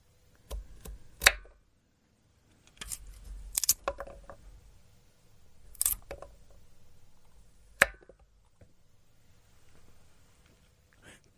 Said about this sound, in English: That was finger cutting. I guess chopping off fingers? Is that what that was?